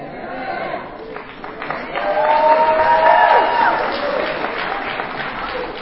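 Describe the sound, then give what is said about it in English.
An audience claps steadily in a dense, crackling wash of applause that swells midway with a few cheering, whooping voices, then eases slightly toward the end. “Now, I'm glad y'all clapped because that clap should be for every day for NA.”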